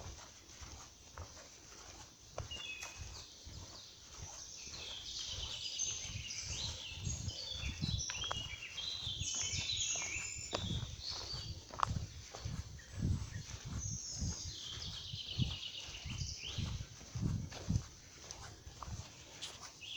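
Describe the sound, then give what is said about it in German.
Birds chirp and twitter continuously in a sunny mixed forest at ten to nine in the morning, a lively high chorus, while rhythmic footsteps of a lone hiker walking toward Bad Nenndorf thud steadily underneath throughout. No one speaks. “Es ist 10 vor 9, Vögel piepen, Sonne scheint, ganz alleine im Wald, herrlich.”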